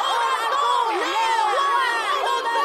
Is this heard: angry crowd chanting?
yes